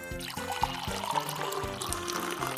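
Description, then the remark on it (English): Water pours steadily into a large pot, a continuous splashing stream with gurgling pulses and a resonant tone that shifts as it fills, moderately loud with no voices. “She filled it with water and put it over a fire.”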